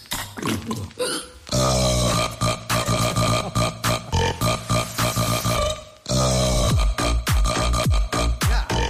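A woman burps a song after taking a big drink from a can of fizzy drink. Long, loud burps stretch into pitched, melodic phrases, belched as a tune in two sustained stretches separated by a brief pause. The burps are forceful, with no talking.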